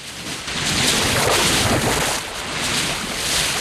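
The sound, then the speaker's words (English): Strong, foaming river currents rushing in a steady, broad wash of churning water, swelling around the middle and easing slightly before rising again, with no voices. “Outside, someone's being swept along by the strong currents in the river and is fighting to keep his head above the surface.”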